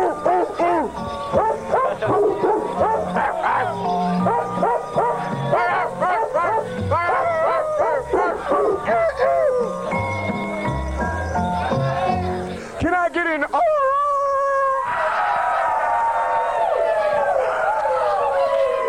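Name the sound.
dogs howling and barking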